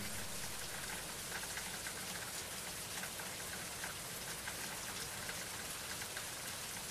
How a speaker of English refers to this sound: I listen to the rain.